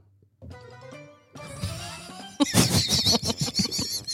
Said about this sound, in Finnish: Miksi Pieru ääniä hyi? Lopeta, laitetaan. Eikö se ole mitään kaunista?